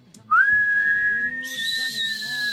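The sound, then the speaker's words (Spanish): A person lets out one long, loud whistle, sliding upward at the start and then holding a steady, piercing note until it cuts off. “Y cuando uno siente que el otro está mintiendo ya deliberadamente, que vos decís, dale, se nota que eso es una mentira, no nos cagues el juego, le puede empezar a chiflar.”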